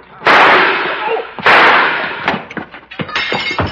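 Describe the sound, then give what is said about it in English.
Two loud gunshots about a second apart, each with a sharp crack and a long noisy tail, followed by a scatter of quieter clattering knocks and bangs. “Put that gun back under the counter.”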